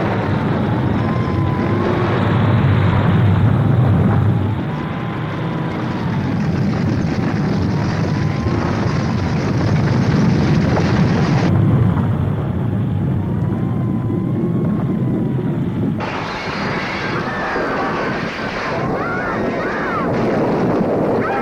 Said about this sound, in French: Cela crée l'horreur sur Terre. Des explosions, des morts, tout est paralysé.